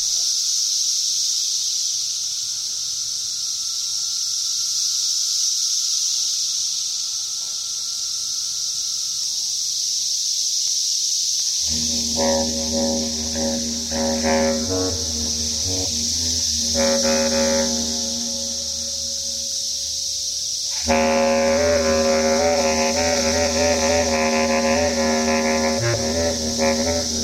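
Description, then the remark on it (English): A dense, unbroken drone of a periodical cicada chorus, Brood I in a small spring emergence near Lexington, Virginia, fills the air. After a stretch alone, a live bass clarinet enters with low sustained notes, played along with the cicadas, growing fuller and louder toward the end. “Brood number one came out, and I was playing my bass clarinet together with millions of singing cicadas.”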